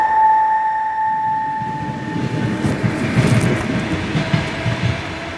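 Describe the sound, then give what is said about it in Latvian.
A train rolls past on the railway tracks beside the former Brasa prison in Riga, Latvia: a steady high tone fades out as a loud, rumbling clatter of wheels builds and continues, with no one speaking. “Brasas cietums, ko pieminēja Iļja, atrodas Rīgā blakus dzelzceļa sliedēm.”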